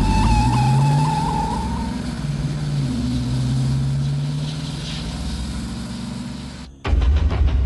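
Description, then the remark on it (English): A car drives off beneath an L-train line with a loud tire squeal and a revving engine, the squeal sliding in pitch over a steady roar, then an abrupt cut to a harsher, rattling burst of noise. “Cat gets in, and the car drives off beneath an L-train line.”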